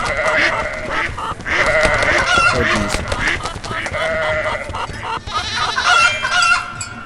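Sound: chickens clucking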